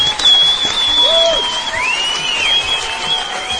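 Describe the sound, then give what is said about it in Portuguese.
Steady, dense applause from a crowd, sustained and fairly loud for a few seconds, with shrill whistles gliding above the clapping. “Palmas pro 31.”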